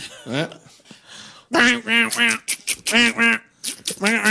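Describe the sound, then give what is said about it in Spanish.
A duck quacks in a string of loud, nasal honks, broken by short pauses. Faint talking sits underneath near the start. “Hostia, esto es un pato, ¿no?”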